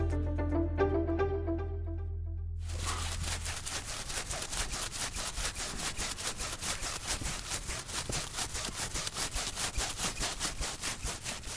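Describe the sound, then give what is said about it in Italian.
A short humming musical tone opens, then a bar of handmade soap, called Africana Soap, is grated in Sierra Leone before being sold: fast, steady, rasping strokes repeating in an even rhythm, loud and continuous, with no voices. “Quello che state ascoltando è sapone che viene grattugiato prima di essere messo in vendita.”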